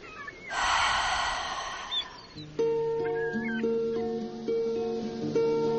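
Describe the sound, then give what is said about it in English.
During a breathing exercise, a person breathes in with the stomach, then pushes a loud, forceful breath out with a voiced, breathy 'haa' lasting about a second and a half. Then calm, sustained musical tones play in steady, stepping notes. “And breathe out using the sound.”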